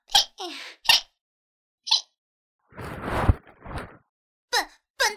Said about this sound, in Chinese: 什么叫做连打嗝声音都那么可爱？